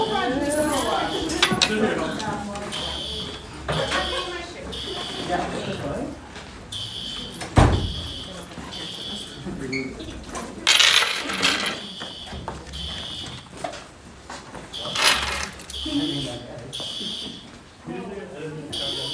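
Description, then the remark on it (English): A fake fire alarm blares during a class test in steady, repeating shrill pulses throughout, with voices chattering and moving about underneath as the class is led out, and a sharp knock or clatter partway through. “Is that a fire alarm? There's not supposed to be a fire alarm today.”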